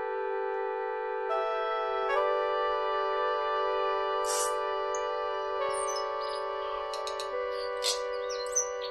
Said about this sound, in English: That's the Tui, and it's an extraordinary kind of bird that's endemic to New Zealand. You only find it there.